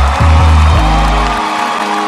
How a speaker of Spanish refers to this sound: Un fuerte aplauso para este hombre valiente